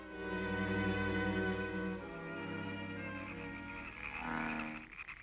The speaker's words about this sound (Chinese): 哎呦，这些青蛙真闹得我神经错乱了。哎呦， 这也太不像话了。